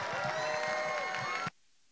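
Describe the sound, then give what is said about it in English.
At a church service, a large crowd claps and shouts praise to the Lord together in a loud, dense burst of cheering voices and applause, sustained for about a second and a half before cutting off abruptly into near silence. “Oh, give the Lord a proper clap offering and a shout of praise.”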